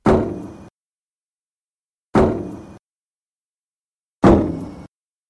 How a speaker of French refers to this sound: Puis elle entend. Toc, toc, toc, sur le toit de la voiture. Puis là, ça graffine. Comme si ça grattait sur le toit de la voiture. Puis elle entend encore cogner sur le toit de la voiture. Boum!